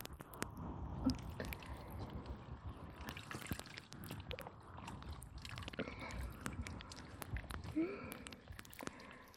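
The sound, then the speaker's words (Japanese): Continuous wet sloshing and trickling as water rinses away foam, with soft squishy movements and occasional light splashes, steady throughout without any talking. “では泡を流していきますね。”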